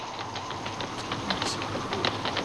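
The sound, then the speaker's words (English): A horse's hooves clatter in a quick, steady rhythm over a constant rumbling background, moderately loud, with no voices. “A horse.”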